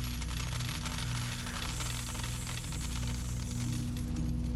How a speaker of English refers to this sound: She's going for the big fruit machine. Okay, think lucky thoughts. She won! And here come the coins.